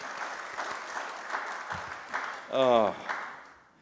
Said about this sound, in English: Andrew Lloyd Webber is somewhere in the world applauding. Don't y'all agree? Okay. Oh, there's applause.